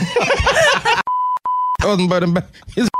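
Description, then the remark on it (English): A steady electronic censor tone blares twice over speech, cutting in abruptly between bursts of animated talking and laughter, each bleep lasting about half a second and sounding loud. “No, we had to beep that.”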